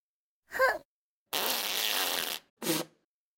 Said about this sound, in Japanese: あ、また出る。おなら出ちゃうよ。ああ、出る。出る出る出る出る。ほら、出た。また。おなら止まんない。